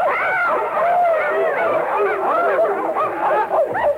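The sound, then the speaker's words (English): A pack of sled dogs barks and yelps all at once, a dense, overlapping chorus of high yips that stays loud for the whole stretch without pause. “Fetch me my trusty dog sled here.”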